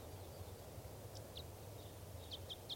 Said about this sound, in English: Wild bird on the scene here. Type 5 bird in song.